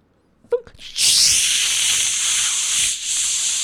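A few short knocks and clicks as the door of a pneumatic tube system is opened with no tube inside, then a sudden loud, steady rush of air blasts out and keeps hissing evenly, with a brief dip in strength near the end.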